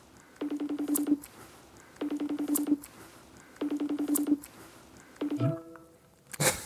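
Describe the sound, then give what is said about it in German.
A telephone call rings out on the line as someone calls a man to see if he answers: three evenly spaced electronic ring bursts, followed by a shorter changed tone and a sudden click-like burst at the end, with no talking. “Dann checken wir doch mal, ob er ans Telefon geht.”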